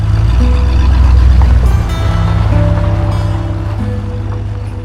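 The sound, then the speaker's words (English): A car engine rumbles loudly and steadily as the car returns to a motel at night, its low drone shifting briefly as the vehicle slows to park, then idling on at a lower, even hum. No one speaks. “He parks the car.”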